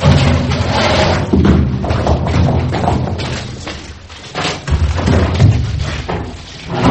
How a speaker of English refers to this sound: Now, lay this broad door on her.